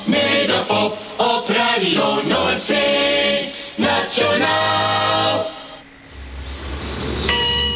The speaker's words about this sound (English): Well, there can't be many radio stations in the world that have a bell tower like that and such a luxurious setting as this.